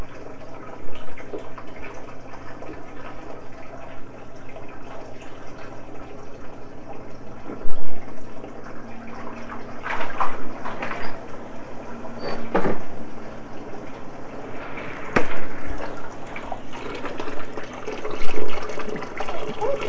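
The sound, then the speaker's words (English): A bathtub fills with hot water from a running tap, a steady rushing gush of water with occasional knocks and splashy bursts, and faint voices murmuring in the background. “Oh, the water's going to be just right. You don't want to use up all the hot water,”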